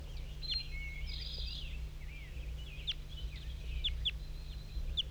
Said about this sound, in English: There's a wild bird in the top of the dead pine. Looks to be a male. One bird.